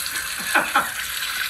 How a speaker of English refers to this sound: Turn on the hot water. Turn it on.